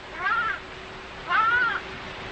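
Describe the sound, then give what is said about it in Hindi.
A lamb caught in a thorny bush on a mountain slope cries out twice, each a high, wavering, plaintive call lasting about half a second, with a pause between them and a faint steady hum underneath. “एक मेमने का चिल्लाना था।”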